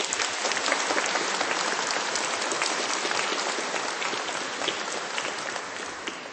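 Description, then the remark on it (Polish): Sustained audience applause at a sanctuary, thanking Father Eugeniusz Derdziuk, the local parish priest and custodian of the sanctuary, a dense steady patter of many hands clapping at an even level for several seconds with no voices over it. “Księże Eugeniuszu, bardzo dziękujemy i te nasze oklaski niech będą także wyrazem naszej dziecięcej wdzięczności.”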